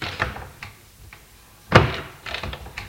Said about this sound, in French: Tourne dans la chambre, éclaire et se dirige vers l'armoire. Ouvre les portes de l'armoire.